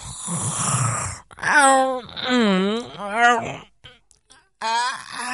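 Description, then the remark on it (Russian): Loud, exaggerated snoring of someone asleep by a door, with a rough inhale followed by drawn-out, wavering groaning exhales, repeated in a slow rhythm, like a voice performing cartoonish snores. “Это и есть храп, но какой сильный!”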